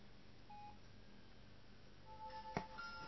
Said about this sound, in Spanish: voy a apagar el celular. Va a sonar un poquito.